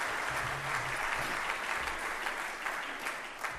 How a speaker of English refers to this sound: Applause at the beginning is, I guess, safe.